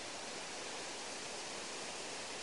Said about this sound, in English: We're now standing above two waterfalls, which are careering water from Agill Dam to our left, down into Roundhill Reservoir to our right.